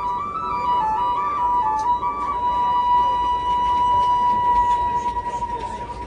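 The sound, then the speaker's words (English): A Zuni guide plays a simple tune of pure, held notes on a flute, the long final note sustained for several seconds, over a steady low rumble of a moving train running from Gallup to Albuquerque. “A Zuni guide climbs aboard and narrates the train from Gallup to Albuquerque, and he plays real good flute for free.”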